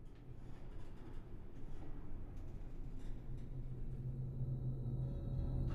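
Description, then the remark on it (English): An elevator descending, heard as a steady low mechanical rumble and hum that holds even throughout, with a faint tonal drone strengthening toward the end. No voices. “The elevator descends.”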